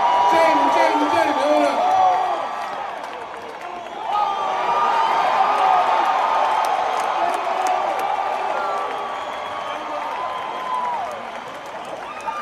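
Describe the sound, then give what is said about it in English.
A large crowd at the Hollywood Bowl in Los Angeles cheers and whoops for Jamie Foxx at the curtain call of Dave Chappelle's Netflix Is a Joke Festival show, a steady, loud roar with scattered clapping and overlapping shouting voices; the noise dips briefly, then swells again and carries on. “Now, they're cheering on Jamie Foxx because he was there.”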